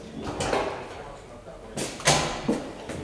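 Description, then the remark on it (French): A door on the fourth floor is opened with a few sharp clunks and a brief rattle in quick succession, then left open, preceded by a faint murmur of voices. “Je laisse la porte ouverte à l'intérieur?”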